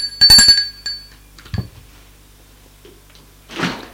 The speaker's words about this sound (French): La voisine sonne chez eux.